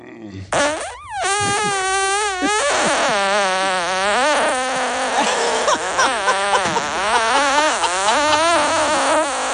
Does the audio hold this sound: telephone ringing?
no